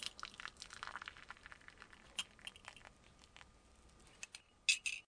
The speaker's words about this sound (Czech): No jasně, byla to rychlovarná konvice a zalití ranní kávičky.